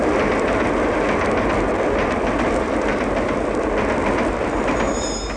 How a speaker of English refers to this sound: With stereo, an express train roars through your living room.